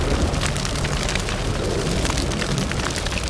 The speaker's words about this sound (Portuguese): A pequena casa entra em chamas, queimando tudo, até a macaxeira.